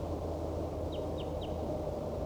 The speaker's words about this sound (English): There appears to be another wild bird down the hollow, calling back.